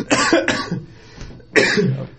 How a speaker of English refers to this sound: He took that pretty hard. I did. It induced a coughing fit.